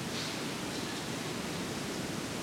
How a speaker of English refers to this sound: That's the rain